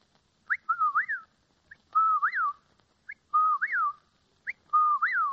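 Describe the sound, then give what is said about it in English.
A person whistles an imitation of a whip-poor-will, repeating the three-part rising and falling call four times in a steady rhythm, clear with no talking. “The second is a whippoorwill.”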